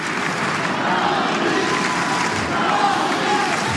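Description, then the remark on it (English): A tennis crowd at a match involving Osaka cheers in a steady, dense roar that holds at an even loudness for nearly four seconds, with no single voice standing out from the mass of noise. “Crowd really enjoying this, and I think quite pleased that they're going to get almost certainly another set.”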